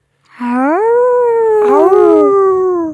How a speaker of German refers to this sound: Es wird langsam dunkel und laute Wolfsgesänge schallen durch die Nacht.